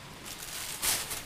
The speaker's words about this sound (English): I'm hoping you can hear this. I'm hoping you can feel it. Can you hear that pitter-patter of the rain in the background? The sky gods are screaming.